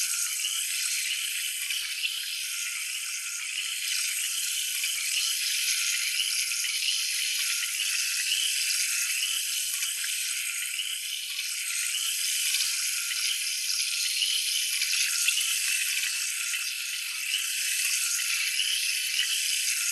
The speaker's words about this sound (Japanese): 一度浮いた汚れをシャワーで落とさせていただきます。炭酸泉を当てますね。